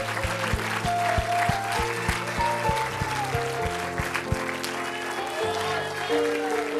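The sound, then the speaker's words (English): An audience claps loudly and continuously in praise of Jesus, a dense wash of hand claps over sustained organ chords, with a steady thumping drum beat through the first few seconds. “Let's give Jesus a good hand clap of praise.”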